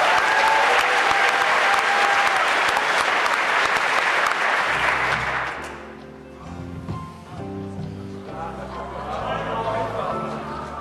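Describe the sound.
An audience at a quiz game bursts into loud, steady applause for a contestant, a dense wash of many hands clapping for about five seconds, then it fades and quieter tonal sounds and voices take over.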